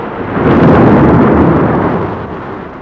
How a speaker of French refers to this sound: les éclairs, les tonnerres, terribles. Les cheminées tombent, les antennes de télévision aussi.